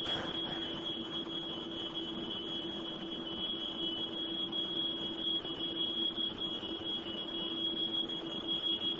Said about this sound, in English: The smoke alarm on the second floor now activates. This is the alarm the family heard.